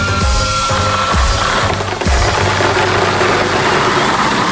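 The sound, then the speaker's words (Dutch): The bingo ball machine for Paradise FM radio's Muziek Bingo spins with a steady, loud mechanical rattle and churn, broken by heavy low thumps roughly once a second. No one speaks. “Een draai aan die dampende bingomolen. Dus even kijken wat voor balletje eruit rolt.”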